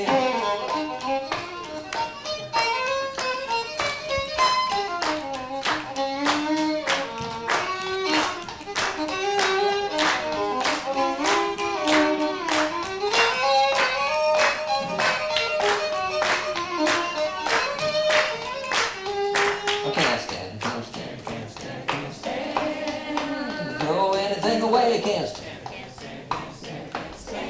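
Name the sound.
rhythmic hand clapping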